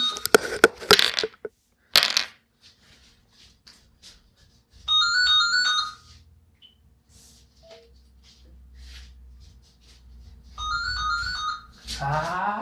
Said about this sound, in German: Aber ganz gut, machen wir mal kurz Stopp, weil das Telefon.